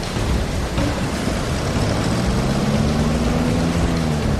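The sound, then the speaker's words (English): A boat engine revs up as the boat heads downstream and opens the throttle after knocking against a rock, its droning pitch climbing steadily through the second half, over a constant wash of rushing water and wind noise. No one speaks. “But that sturdy hull survives the knock, and now they're heading downstream, they can open the throttle again.”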